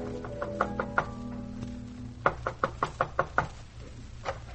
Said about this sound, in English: There's a knock at the back door.